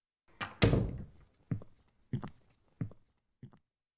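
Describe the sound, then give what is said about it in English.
A door swings shut behind someone with a heavy thud and locks, followed by four lighter knocks spaced at roughly even intervals as things settle. Nobody speaks. “Just close the door behind you. It'll lock.”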